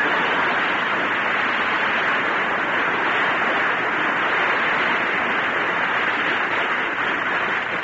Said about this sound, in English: So here he is, folks. A man the whole world is anxious to hear, but on the other hand... Never mind. Jack Benny, applause.